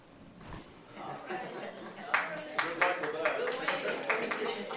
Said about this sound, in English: Are you applauding that I'm resigning?